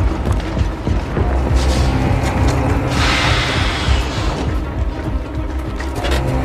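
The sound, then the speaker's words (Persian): A heavy truck engine rumbles loudly as the truck drives toward a mine, with a rushing, hissing surge midway through before the low idle-like growl continues; no one speaks. “حاتم با کامیون منوچهر میاد سمت معدن.”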